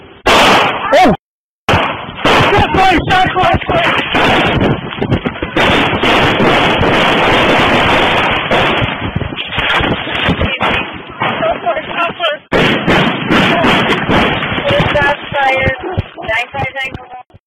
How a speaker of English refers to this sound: If you listened, you heard that there were a lot of gunshots fired.